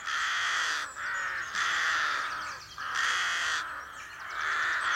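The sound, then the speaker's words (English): A dense chorus of rooks cawing at a well-established rookery on the main street of Belcoo, a village in County Fermanagh, on a cool, calm March morning while they build nests; many harsh, raucous calls overlap into a near-continuous racket with only brief lulls, loud throughout and with no voices. “Rooks are infamous for their raucous cawing.”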